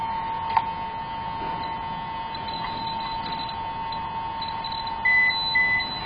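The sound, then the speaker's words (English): A Geiger counter gives a steady electronic tone throughout, with an isolated sharp click early on and a quick burst of high-pitched alarm beeps near the end; its alarm sounds when readings go over 0.30 microsieverts. Fairly quiet, with no talking. “This Geiger counter also has an alarm when you go over 0.30 microsevs, which I guess in the Russian Federation is the highest level of contamination you can have in a residential house.”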